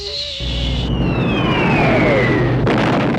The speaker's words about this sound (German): Den langgezogenen, heulenden Ton der fallenden Bomben wird sie nie vergessen